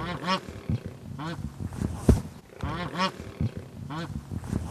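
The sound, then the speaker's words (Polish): A wild Canadian turkey, the original wild form, calls repeatedly, a series of loud, throaty, harmonic bursts arriving roughly once a second, with little else around them. “No, powiem pani tak, no, to jest wbrew pozorom nie taki domowy, bo to jest dzika forma indyka. Takiego, jak występuje w naturze w Kanadzie, gdyż jest to oryginalny dziki indyk kanadyjski.”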